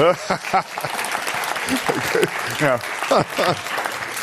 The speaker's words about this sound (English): Give him a round of applause for that.